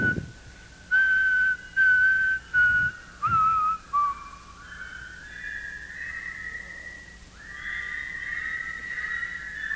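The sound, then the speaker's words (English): A group whistles the Doxology, a hymn of prayer, at a festival, starting with short, separated notes and moving into longer held, slightly wavering tones, several whistlers blending together with no talking. “We'll do one of the great songs of prayer from the dining hall. Only we'll whistle it, and it goes.”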